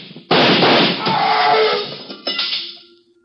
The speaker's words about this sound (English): Watch it. Fire through the door.